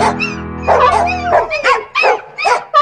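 Dogs bark and yip loudly, about five sharp, high-pitched barks in quick, uneven succession, with a steady droning tone underneath at the start.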